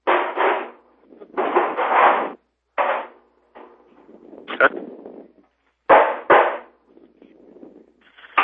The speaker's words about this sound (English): Who's hammering there?